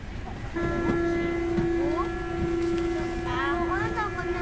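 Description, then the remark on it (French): A metro train in an underground station gives off a steady, loud tonal whine that starts after a brief moment and holds throughout, with people's voices chattering. “On est en train de descendre pour voir le métro. On va descendre en souterrain.”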